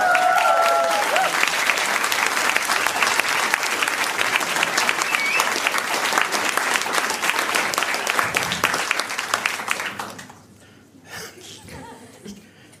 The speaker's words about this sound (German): Eine tolle Stimmung hier, das freut mich. Ich könnte noch ein bisschen Applaus, ich sag's nur, also falls...